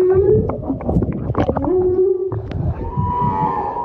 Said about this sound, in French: En fait, on s'est très vite rendu compte qu'il y avait une baleine qui chantait, mais juste sous le bateau. Ce mélange de force, de son grave, ça te rentre complètement dans le corps. Ça donne les frissons et on s'arrête.